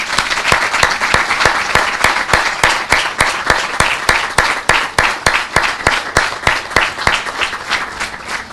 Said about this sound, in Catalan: Un aplaudiment per a Salvador, gràcies.